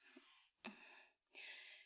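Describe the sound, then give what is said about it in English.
Heavy, noisy breathing: three long, airy breaths, the middle one starting with a sharp rush of air, with short pauses between them and no talking. “You're breathing all heavy.”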